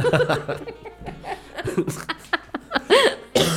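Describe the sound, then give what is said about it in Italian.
Laughter breaking into a run of harsh coughs, several sharp bursts in uneven succession, with chuckling and breathy sounds between them; a person recovering from a cold is set coughing again by laughing. “Mi hai fatto tossire di nuovo.”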